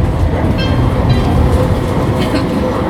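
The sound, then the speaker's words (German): A steady, loud low rumble of a modern low-floor tram of the Rostocker Straßenbahn AG rolling along rails in Rostock, with faint intermittent high metallic squeals from the wheels and no voices. “Früher Pferdebahnen, heute moderne Niederflurfahrzeuge.”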